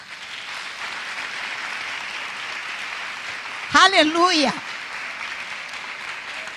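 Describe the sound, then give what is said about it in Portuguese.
Steady, dense applause from a crowd, called for by a speaker after asking the women in the audience to stand, fills the whole stretch at an even loudness, with a single voice calling out a brief exclamation over it midway. “Dá uma salva de palmas.”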